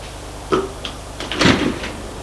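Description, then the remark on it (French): Elevator doors slide shut with a short knock and a rattling clatter as a woman enters, while a low, steady mechanical hum runs underneath as the car rises to the third floor. No one speaks. “Entre dans l'ascenseur et monte jusqu'au troisième.”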